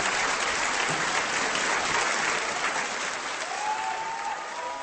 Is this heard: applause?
yes